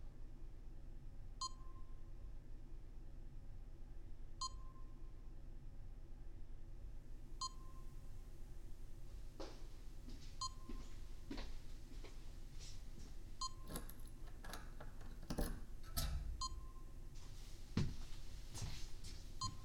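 electronic beeps

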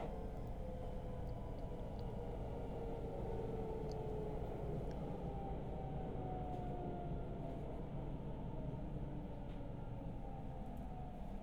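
train running

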